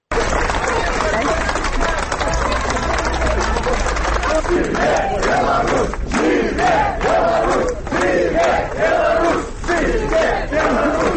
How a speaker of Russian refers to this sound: для будинку суду зустрікали десятки родних, поплечників, журналістів, квітками, аплодисментами, вокличами «Живе Білорусь!».